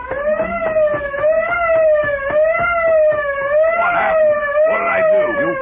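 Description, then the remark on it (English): A truck's auto alarm system blares without pause after someone broke open the truck's lock, a loud, steady, buzzy electronic wail that wavers slightly in pitch, with a few brief rattling noises mixed in toward the end. “That fool, he's broken the auto alarm system.”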